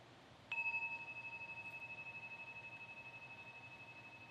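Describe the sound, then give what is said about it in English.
A meditation bell is struck once and rings on alone, its bright, steady tone shimmering with a gentle pulsing waver as it slowly fades. “So as we listen tonight, just as a way to keep coming back, you might just listen to the sound of the bell as an invitation into here-ness.”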